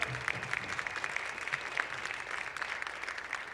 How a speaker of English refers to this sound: It's a special night that they could be here since they've been on tour. And yeah, worked out. So big round of applause for them.